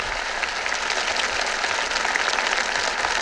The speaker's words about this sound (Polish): Bardzo Wam dziękuję za tę odpowiedź. Bardzo Wam dziękuję za te oklaski.